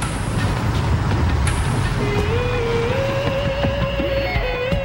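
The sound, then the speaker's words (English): A car engine rumbles steadily, then its pitch climbs as the car accelerates away to follow a cab that has pulled out of a driveway, with a continuous low road-noise bed underneath and no voices. “Jenna starts his car and follows.”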